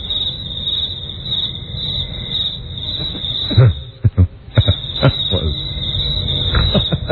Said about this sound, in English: I gotta love the crickets.